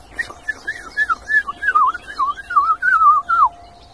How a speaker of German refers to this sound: Dieses helle, klare Flöten, das schafft nur die Mönchsgrasmücke.